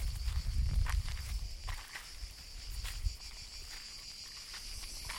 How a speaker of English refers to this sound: And the crickets that live here and work all day on the barks of these trees are just incredible.